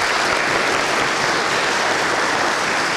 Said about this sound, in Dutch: Echt heel erg bedankt. Groot applaus.